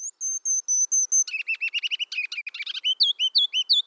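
A ruby-crowned kinglet, a tiny olive-green songbird, sings alone, starting with a row of high, thin notes, then a rapid jumbled twitter, ending in bright, rolling repeated phrases, clear.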